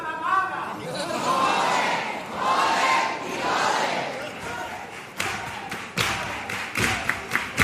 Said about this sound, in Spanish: Los aplausos de esta agrupación, que es ya la cuarta de este ciclo.